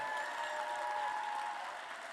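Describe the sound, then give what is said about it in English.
An audience applauds the poets of the second round after the judges' scores, a dense wash of many hands clapping at a constant level with no voices heard. “Applaud the poet. And applaud all the poets in the second round.”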